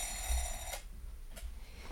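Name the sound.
alarm clock ringing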